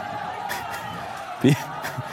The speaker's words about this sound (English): I'm watching this video. It's amazing. Just barriers being knocked down, huge crowds rushing.